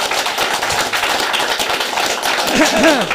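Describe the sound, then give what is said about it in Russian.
A debate audience of about 60 people applauds itself with dense, steady clapping that stays loud and even for about three seconds, with a brief vocal cheer rising near the end. “Да, аплодируйте сами себе.”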